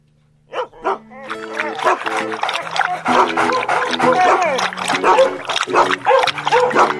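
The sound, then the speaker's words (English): Several puppies yap and bark excitedly in a busy, overlapping chorus, fairly loud, with high squeaky cries and whimpers mixed in for several seconds. “They sound pretty happy, don't they?”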